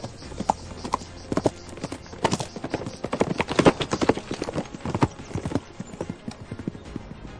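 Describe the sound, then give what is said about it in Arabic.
A black horse ridden by a sultan gallops fast up a hill from its foot, a steady clatter of overlapping hoofbeats, loud throughout, easing off slightly near the end, with no one talking. “صعد السلطان عليه لتصل قدمه إلى ظهر الحصان، ثم ركب الحصان وانطلق بسرعة نحو أعلى التلة التي كانوا في سفحها.”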